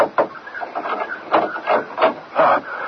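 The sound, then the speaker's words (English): Someone knocks on a locked front door, a series of dull wooden raps in loose, uneven clusters, fairly loud and with no voices. “knock just once more, please.”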